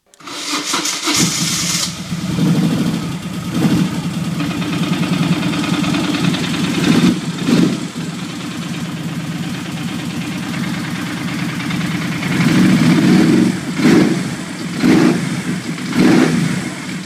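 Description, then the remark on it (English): A motorcycle engine cranks and catches, then settles into a loud, steady running rumble, with a few throttle blips swelling the sound near the end, taken from a cell phone video of the bike starting up and running. No voices. “I took the sound from the video of the bike starting up and running, and here it is for your listening pleasure.”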